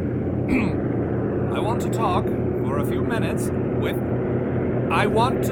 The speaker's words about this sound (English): How's a man supposed to get any broadcasting done when his home's being strafed by aeroplanes?